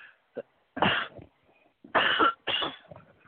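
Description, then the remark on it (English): A lingering cough from someone recovering from an illness: one harsh cough, a pause, then two more hoarse, chesty coughs in quick succession, with a small catch of breath between them. “I'm just finally recovering as of a few days ago, but I still got that lingering cough.”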